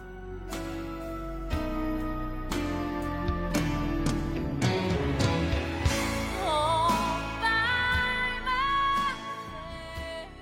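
A song plays loudly as the theme of the Title Ball Show, a Wisconsin radio program. It has a steady pounding beat, full band backing and a wavering melodic line rising in the second half, with no talking over it.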